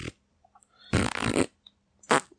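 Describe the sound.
A person blows a loud, buzzing raspberry with their lips to express disdain, a sustained mouth fart lasting about half a second, followed by a shorter second burst, with no talking.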